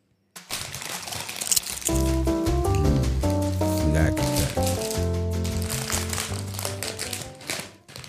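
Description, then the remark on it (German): A snack bag rustles and crinkles for several seconds, a busy continuous crackle, joined midway by a steady droning tonal sound. “Du raschelst.”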